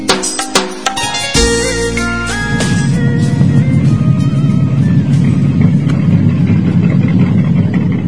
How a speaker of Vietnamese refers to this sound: Bỗng có tiếng xình xịch nho nhỏ.